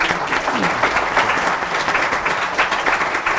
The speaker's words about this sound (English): And I appreciate it if everyone could join me in a round of applause.